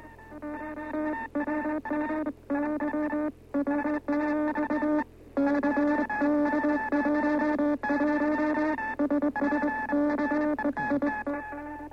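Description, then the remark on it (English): Two radio stations send tones at once, overlapping buzzy, harmonic-rich signals that switch on and off in irregular bursts with brief gaps, over a steady low hum and no voices. “Two stations going at the same time.”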